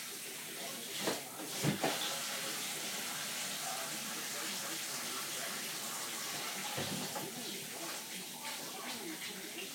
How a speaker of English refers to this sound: come on, water, get hot. Get with it.